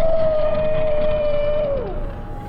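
A loud, eerie demonic roar of Satan as he flees: a sustained moaning tone over a rumbling low growl, holding steady for almost two seconds before its pitch slides downward and fades.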